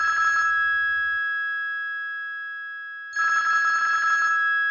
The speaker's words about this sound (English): Oh, the phone?